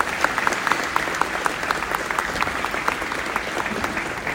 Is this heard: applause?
yes